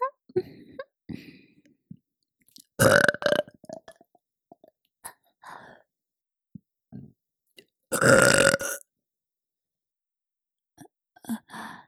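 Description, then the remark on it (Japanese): Two loud, drawn-out burps by a woman speaking as a mother, several seconds apart, with soft breathy mouth sounds and small clicks in the quiet stretches between them. “いいわよ、もっと聞かせてあげる。ママゲップ、たっぷり味わってね。”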